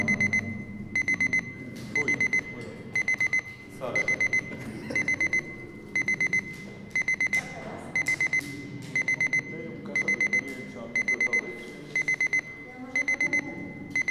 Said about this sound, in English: This is alarm clock.